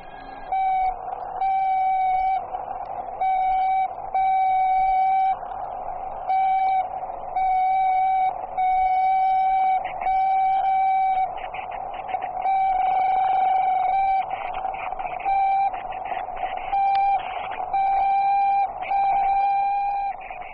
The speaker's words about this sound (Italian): Primo dicembre 1960. Radio Mosca annuncia che una nave spaziale è in orbita. È la terza in poco più di 6 mesi. Al centro di ascolto spaziale di Bochum, nella Germania federale, i segnali del Korable III vengono registrati poco dopo il lancio. Eccoli.